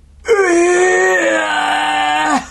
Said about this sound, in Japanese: そこ驚くところじゃない。てかその悲鳴はどういう意味なの？